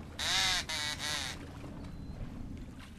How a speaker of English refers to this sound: sure is boring, sitting in the duck blind. Not hardly any ducks at all. Real boring. Blow that duck call again. All right.